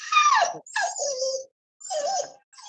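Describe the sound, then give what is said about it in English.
The speaker's female dog, Sheik, whimpers in three drawn-out, high-pitched whines separated by short pauses, fairly clear, with no talking over it. “Now, I'm sorry if you hear this whimpering sound, it's going to be my dog.”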